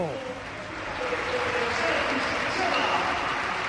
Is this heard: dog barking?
no